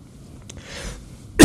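A sudden, loud, harsh cough bursts out at the very end after a stretch of quiet, faint breathy noise, as a preacher clears his throat after choking on water during a sermon. No one speaks.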